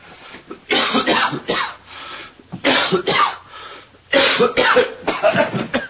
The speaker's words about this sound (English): Hey! You spit on me. I'm sorry, I coughed. You see, bone gets stuck in my throat.